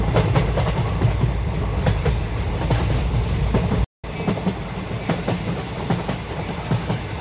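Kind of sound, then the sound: vehicle, train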